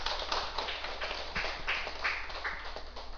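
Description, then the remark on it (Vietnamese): An audience applauds at the start of a Buddhist dharma talk given on 14 July 2001, a steady, dense patter of many hands clapping, sustained at an even moderate loudness for about three seconds with no voices standing out. “Xin quý vị vỗ cho tràng vỗ tay.”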